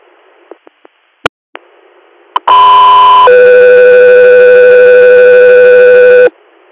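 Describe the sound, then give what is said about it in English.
A few faint radio clicks, then a loud two-tone radio dispatch alert for an air crew ahead of an inter-hospital response call: a short steady tone shifts into a longer held second tone for about three seconds before cutting off cleanly. “Go 3 Air, stand by for tones.”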